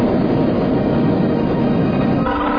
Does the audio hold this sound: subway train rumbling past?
yes